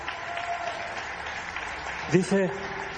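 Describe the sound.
A crowd claps steadily for a man who has stood up, in a dense, continuous wash of applause, with a voice briefly calling out over it near the end.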